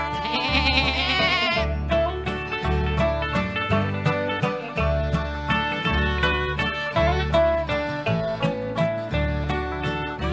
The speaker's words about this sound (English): My child has a billy goat, ba ba ba ba.